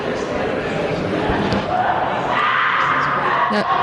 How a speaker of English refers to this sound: Oh, that's quite loud. Here we are at Anime Boston 2012. The screaming you hear in the background is a girl cosplaying as a witch from Left 4 Dead who periodically chases after people.